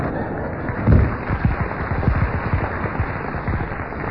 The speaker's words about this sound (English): Ah, if just one more person slams that door like that, it'll fall off.